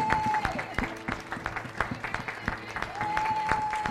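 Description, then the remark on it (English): A standing crowd claps in a dense, steady round of applause to celebrate a 70th birthday, with sharp louder claps standing out, while a high sustained tone, like a whistle or held note, sounds at the start and again near the end. “So if everyone would stand, we're going to just give him a round of applause and just celebrate the 70th birthday.”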